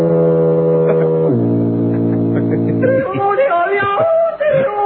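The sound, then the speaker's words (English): A loud, deep foghorn blast drones steadily for about three seconds, dropping to a lower pitch partway through, before voices begin talking as it ends. “Is there a foghorn out on the on that rift or whatever that be.”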